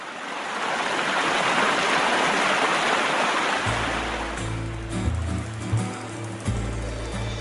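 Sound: flowing water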